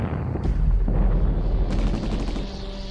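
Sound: gunfire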